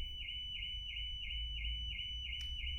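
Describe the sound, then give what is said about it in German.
A car alarm wails continuously inside a hall, its siren tone sweeping up and down in a steady repeating cycle over a low rumbling background, echoing. “Boah, also nur Leute, falls ihr es nicht gehört habt, bei uns ging gerade Alarmanlage an hier in der Halle.”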